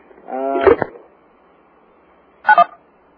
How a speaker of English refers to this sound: Yeah, and if anybody out there doesn't have their phone on mute, I just remind them to mute their phone at this time. I think I'm getting a telephone ringing. I'm sure everybody else is also.